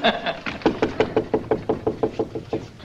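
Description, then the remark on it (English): A rapid series of about a dozen sharp wooden knocks on the door of Minnie Finch's place, evenly spaced, with a brief bit of background noise at the start. “Well, then knock.”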